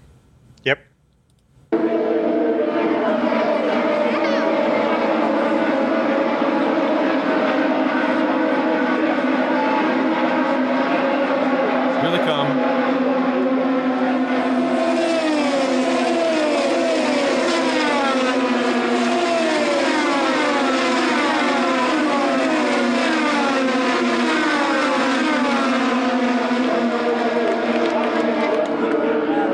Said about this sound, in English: And the sound just echoes like in a canyon in that oval, and it gets louder and louder. So what you'll hear is the cars on the other side of the track at first as they're coming around closer and closer to me.